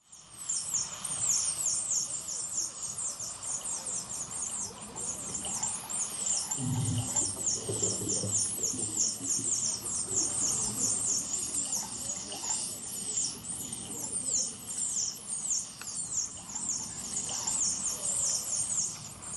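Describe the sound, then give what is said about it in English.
Dolphins squeal and chirp continuously in rapid, overlapping high-pitched bursts as they are being slaughtered in a cove in Taiji, Japan, with a brief low rumble or splash partway through and a faint murky background underneath. “That's the sound of dolphins as they're being slaughtered in a cove in Taiji, Japan.”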